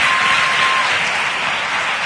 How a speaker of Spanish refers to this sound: Un aplauso, por favor.